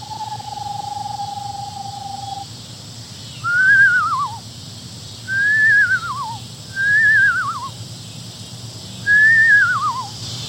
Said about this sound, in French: Le livre explique que pour faire ça, il faut ramasser un peu de crachat sur la langue. Siffler à travers le crachat et se pencher un peu la tête d'une certaine façon et on arrive.